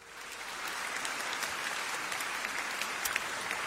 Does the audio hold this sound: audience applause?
yes